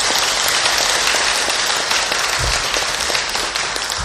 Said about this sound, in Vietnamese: Nếu quý vị hoan hỷ cam kết với lời đề nghị trên, thì xin cho một tràng vỗ tay thật lớn nữa nào.